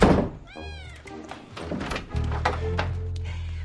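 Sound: cat meowing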